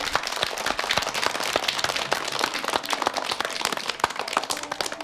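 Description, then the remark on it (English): A crowd applauds steadily for Oscar Wilde, dense overlapping claps forming a loud, sustained wash of crackling noise for several seconds with no voices on top. “Will we give him a big round of applause?”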